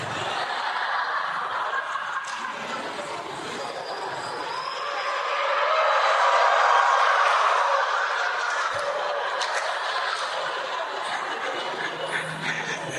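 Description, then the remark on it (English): A large group of people imitates screaming elephants together, a dense, shrill wash of voices with scattered laughter, swelling louder midway before easing back to a steady clamor. “Everyone, make sound like screaming elephant.”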